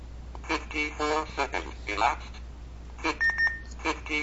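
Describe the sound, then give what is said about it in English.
A short, thin electronic double beep from a count-up timer as its big button is pressed twice quickly, pausing it at 49 seconds; fairly quiet, while a man talks around it. “Hear that beep, that double beep, that paused it.”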